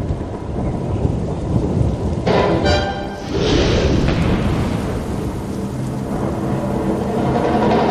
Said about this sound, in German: Aber der Donner!